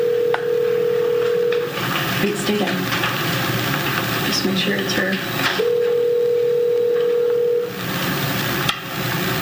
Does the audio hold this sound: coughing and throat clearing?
no